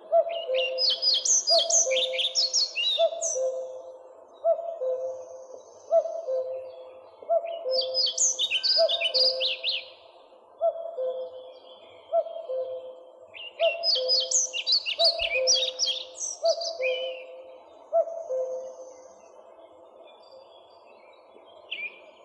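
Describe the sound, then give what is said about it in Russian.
Redwing thrushes in overgrown forest clearings sing three bursts of bright, twittering chatter spaced several seconds apart, over a steady, repeating lower drawn-out whistled pattern that runs throughout. No voices. “На заросших лесных сечах можно услышать протяжный свист дроздов-белобровиков.”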